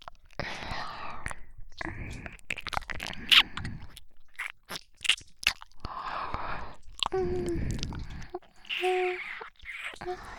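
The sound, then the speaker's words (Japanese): Wet ear licking sounds, a steady run of slurping, smacking and sharp clicky mouth noises in irregular bursts, moderately loud, with soft breathy whispering mixed in. “戦場ではあんなにお強いのに、お耳を舐められるだけで赤ちゃんになっちゃうダーリン。”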